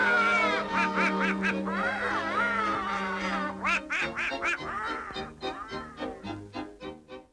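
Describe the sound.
A raspy, nasal cartoon duck voice, from a new duck in its first film, The Wise Hen, quacks and sputters in rapid bursts, loud, with a brief pause midway before more choppy quacking chatter that fades slightly toward the end.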